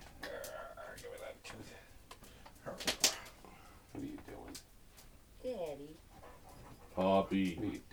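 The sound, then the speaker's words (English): A female pup whines in a few short, high-pitched, wavering bursts, with quiet breathy sounds and faint background noise between them. “Whine about it, you big baby. She's a great pup.”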